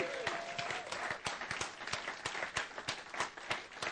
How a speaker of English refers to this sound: Let's give our actors a round of applause.